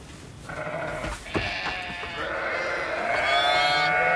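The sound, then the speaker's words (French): Several ewes bleat loudly, their wavering calls overlapping almost continuously, with a brief thump in the middle and no talking; an extract from the film Jeune bergère. “Vous leur parlez beaucoup à vos brebis, hein?”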